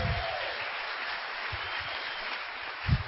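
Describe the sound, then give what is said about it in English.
An audience cheers and applauds for the US Congress designating the Star-Spangled Banner as the national anthem of the United States. A steady, dense wash of clapping lasts about three seconds at moderate loudness, with a few low thumps and no speech. “Can we cheer the Congress for that?”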